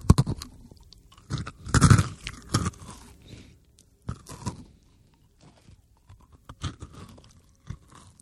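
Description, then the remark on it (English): Loud, close-up chewing near a microphone, done as loudly as possible, with wet, crunchy bites in irregular bursts, strongest early on, then softer intermittent chomps and mouth sounds with short pauses between. “I'm chewing as loud as I can.”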